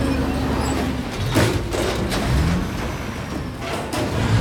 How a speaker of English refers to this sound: Smoke billows from the truck's exhaust pipe as it drives away. The zoo's large metal gates close behind it as the truck drives along the street.